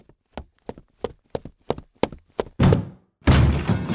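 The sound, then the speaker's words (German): A run of steady, heavy thuds, like repeated blows against wood, builds into two loud, rumbling crashes as a heavy door with rusty hinges slams down onto a stone floor, with no voices. “Mit einem lauten Knall landete die Tür dann auf dem Steinboden.”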